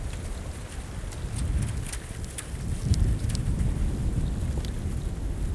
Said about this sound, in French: Les premières croûtes de glace apparaissent aux ombres. Des petites vaguelettes poussées par le vent montent sur la surface glacée. C'est le son de la haute montagne. Clapotis de l'eau.